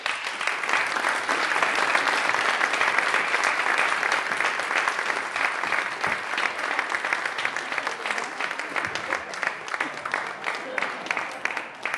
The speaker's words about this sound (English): Thank you. Big round of applause.